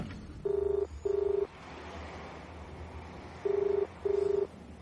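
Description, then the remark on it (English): Telephone dialing from a non-vandalized public phone box to call an ex-colleague at the Daily Comet newspaper: four steady, equal-length electronic tones in two pairs, separated by a pause, standing out over a low background hum. No one speaks. “I find a non-vandalized phone box. Phone an ex-colleague.”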